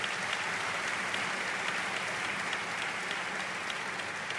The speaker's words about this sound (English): Let's give our County Executive a round of applause.